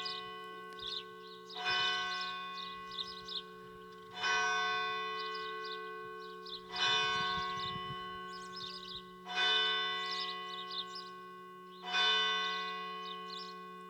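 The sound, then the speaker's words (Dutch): A church bell of a praying community tolls at 11 o'clock with five slow, evenly spaced strikes, each resonant clang ringing out and fading before the next. It is loud and clear, with no talking. “En zo konden we toch even luisteren naar dat geluid van die klok die een beetje als het kloppende hart is bijna van deze biddende gemeenschap die hier al zoveel jaren aanwezig is.”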